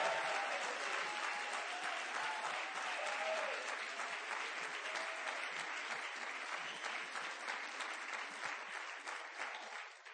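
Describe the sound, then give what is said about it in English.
An audience at a morning worship service applauding as a shout out to friends in Stanford: a dense, steady wash of many hands clapping for about ten seconds, with a few faint voices mixed in, easing off slightly toward the end. “Would you give a big shout out to them?”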